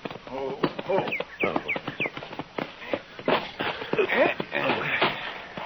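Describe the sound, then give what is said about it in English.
Horse hooves clip-clop in a steady rhythm down by a corral, partly buried under people talking over them. “Down by the corral there, isn't it? Oh, yeah, yeah. He's got a new horse.”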